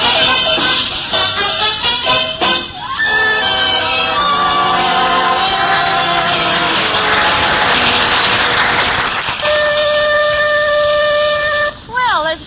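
A loud five o'clock factory whistle blows a long, steady, shrill tone with layered harmonics, following a busy stretch of shifting, droning tones and brief sliding sounds.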